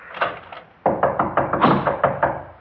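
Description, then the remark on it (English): A door lock being unlocked with a key: a busy series of sharp clicks and clunks, a few quieter at first, then a rapid run of mechanical knocks, with no voices. “Now you unlock your lock.”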